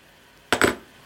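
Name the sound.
key being handled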